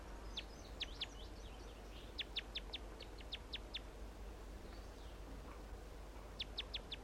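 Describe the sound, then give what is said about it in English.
A wild male bird sings from a small sapling right near a mist net, in repeated bursts of sharp, high chirps delivered in quick rhythmic runs, with pauses between phrases, over a steady low outdoor rumble. “He was right above the net at one point, and I got a photograph of him, and now he is still right here in a small sapling right near the net. And that's him.”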